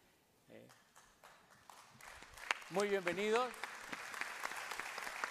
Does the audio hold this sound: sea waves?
no